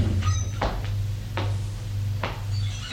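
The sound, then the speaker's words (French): A door opens with a few short clunks and scraping sounds spaced about a second apart, over a steady low hum. No one speaks. “La porte s'ouvre.”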